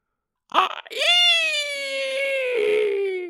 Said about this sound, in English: It makes the hideous shriek once more. And then vanishes from view.